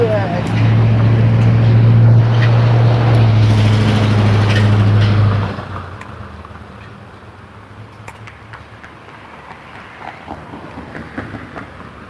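A truck rumbles past, a loud, deep engine drone that holds for several seconds and then drops away quickly, leaving quieter outdoor background noise.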